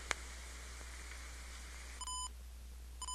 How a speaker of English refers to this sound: Now you'll notice when it's done recording, you'll get two beeps.